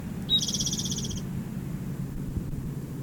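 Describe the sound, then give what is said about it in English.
A bird gives one high, buzzy call lasting about a second, with a rapid pulsing texture, over a steady low rumble that continues after the call ends. “The same bird.”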